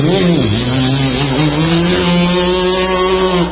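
A loud chainsaw engine runs continuously, its buzzing pitch dipping briefly near the start and then holding steady with no voices.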